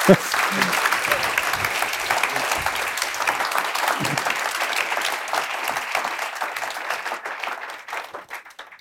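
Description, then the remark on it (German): Steady applause from an audience for author Daniel Kehlmann, a dense wash of many hands clapping at an even level for several seconds before thinning and fading out toward the end. “Daniel Kehlmann, bitte, das ist jetzt Ihr Applaus und der Platz in der Mitte für Sie.”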